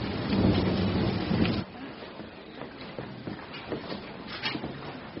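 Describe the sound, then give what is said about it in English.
Heavy rain pours steadily outside in a dense, hissing wash, with a louder low rumble for the first second or so before settling into a constant downpour with scattered drips and patters. “What's it raining out? Raining? I almost drowned”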